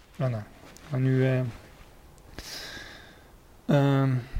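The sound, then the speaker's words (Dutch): A short, breathy nose blow by a man while reading a Bible passage aloud: a rush of hissing air lasting about a second, set between brief voiced sounds that sound like a man's voice. “Lezen in je neus snuiten, dat gaat niet samen.”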